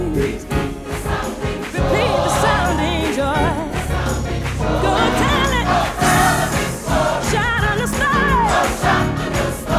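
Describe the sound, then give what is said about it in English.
A church audience claps along in steady rhythm to loud, lively gospel music, with a choir singing and piano driving the beat, the clapping blending into the full sound. “Claps along with the rest of the congregation.”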